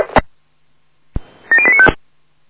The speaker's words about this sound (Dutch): Telefoon is van buiten.